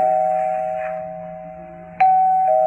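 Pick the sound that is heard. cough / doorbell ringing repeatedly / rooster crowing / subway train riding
doorbell ringing repeatedly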